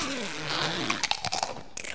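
A werewolf almost as big as the tree crunches on apples: a low wavering hum gives way to a quick, irregular run of sharp, moist crunches and bites, fairly loud, with no talking.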